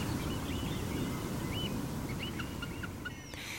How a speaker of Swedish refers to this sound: Och sen då hör man det här vemodiga pipandet från ljungpiparen.